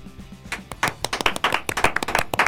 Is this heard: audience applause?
yes